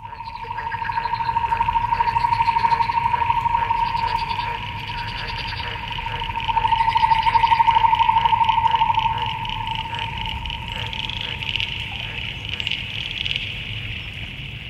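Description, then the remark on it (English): A dense chorus of frog calls, steady buzzing trills with a high whining tone, swelling louder twice before settling into a continuous droning background. “Perhaps that is the sound of frog parenting.”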